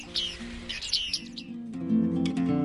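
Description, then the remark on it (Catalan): A tit chirps in a quick cluster of bright, high, short notes at moderate loudness, then gives way to a steady low tonal hum with a few faint high calls over it. “Mallarenga fina de ploma i d'esprit, fascinant joguina del canyar florit.”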